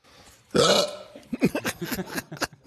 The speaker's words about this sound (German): Es begann vor etwa 3 bis 4 Jahren, dass ich auf einmal einen Schluckauf entwickelt habe. Es ist sehr mysteriös, ich weiß nicht warum, ich habe das jeden Tag. Ist aber auch gar nicht so wichtig, woher das kommt.